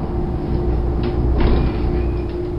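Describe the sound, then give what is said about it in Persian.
A bus's large engine rumbles steadily, coming from afar in fog, and a couple of short hissing bursts suggest doors opening as the bus pulls up, with no voices. “صدایی از دور می آید. بیشک این صدا متعلق به اتوبوس است، اما من چیزی نمی بینم.”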